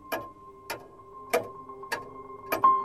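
A pendulum wall clock ticks steadily, five crisp, resonant ticks spaced evenly about half a second apart, fairly quiet, with no voices.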